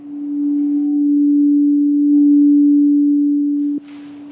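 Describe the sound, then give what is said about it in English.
A steady, sustained low hum rings out alone for nearly four seconds, pure and unwavering, a sound bath relaxation tone, then cuts off abruptly with a brief softer hiss after. “The sessions don't use water, but instead use music and sound to induce feelings of relaxation and minimize stress.”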